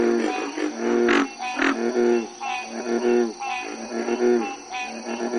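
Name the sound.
frogs croaking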